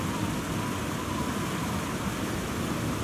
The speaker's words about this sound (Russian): Может, кончится за это время гроза-то, сука, сраная